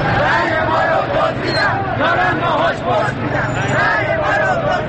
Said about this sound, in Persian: صدای تیراندازی که می آید هر سهشان به سمت پنجره خانه می روند و چشم می دوزند به خیابانی که حالا سراسر همهمه و فریاد است.